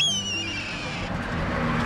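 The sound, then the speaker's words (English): Steady roar of highway traffic with cars and 18-wheeler trucks, a deep engine rumble and a high whine that drops in pitch as a vehicle passes. “A hawk is hunting in the kingdom of cars and 18-wheelers.”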